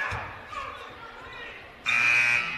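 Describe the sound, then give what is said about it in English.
An arena buzzer blares inadvertently near the end of a basketball game, a loud, harsh, sustained electronic tone cutting over the murmur of a crowd and squeaking courtside noise. “And an inadvertent buzzer. They're going to let it go.”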